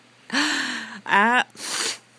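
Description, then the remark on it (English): Three short, forceful bursts of air pushed out through the nose, fairly loud, the first two carrying a voiced, hummy edge and the last a plain breathy hiss. “That's blowing.”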